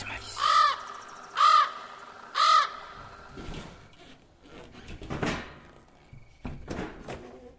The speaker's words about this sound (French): Et l'oiseau. Chut, on va le laisser tranquille.